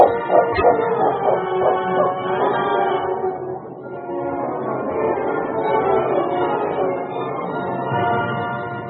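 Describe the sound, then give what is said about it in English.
A dog, King, barks and yips repeatedly in quick bursts, loud, continuing over a steady, full background sound for the whole stretch, as it leads a man downstream through thickets beside a stream. “Leading his horse, Preston followed King as the dog led him downstream through the thickets.”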